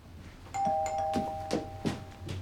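A doorbell at a front door chimes with two overlapping tones that ring out and linger for over a second, accompanied by a few dull thumps and a low background hum.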